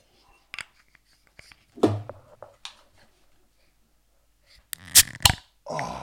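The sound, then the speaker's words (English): A beer bottle cap is pried off with a sharp pop and a brief fizzing hiss, following soft shushing whispers and some quiet handling noises. “Open, shh, the, shh, open the bottle.”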